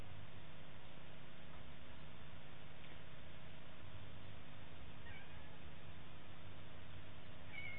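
A cat meows a few times, short and fairly faint, over a steady low hum of background noise with no one talking.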